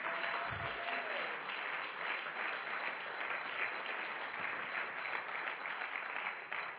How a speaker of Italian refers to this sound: Facciamolo un applauso a Gesù.